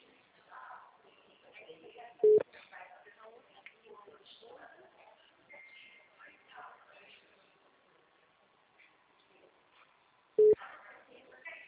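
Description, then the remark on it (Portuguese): A telephone busy signal, because the person called is already on the phone with someone: two short, loud, mid-pitched beeps about eight seconds apart, standing out over a steady background murmur of voices. “Ah, ela tá no telefone com alguém já.”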